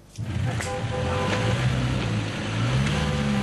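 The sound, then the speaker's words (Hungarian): A small bus engine revs hard as it tries and fails to climb a snowy incline, its droning pitch rising and sagging as it strains continuously without letting up. “Lapáttal kellett kaparni a havat, hogy a kis busz feljusson. De nem jutott fel az emelkedőn.”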